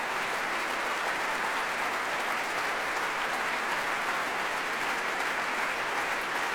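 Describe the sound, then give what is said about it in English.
Sustained, dense applause from a large crowd, the orchestra on its feet applauding pianist Sunuk Kim along with the audience while conductor Kirill Karabits claps on his podium; a steady roar of overlapping claps that holds at an even level throughout with no voices. “Conductor Kirill Karabits is waving his baton in the air and clapping, as conductors do, on his podium, and the orchestra applauding Sunuk Kim as well and coming to their feet.”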